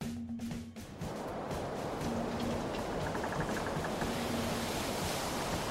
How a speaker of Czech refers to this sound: Spěněné několikametrové vlny házely s dřevěnou bárkou nahoru a dolů.